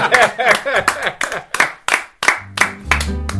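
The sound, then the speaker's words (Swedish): Steady rhythmic clapping, roughly three claps a second, mixed with a voice. Toward the end a low sustained musical tone comes in beneath the claps. “Och nu får vi applådera och skägga.”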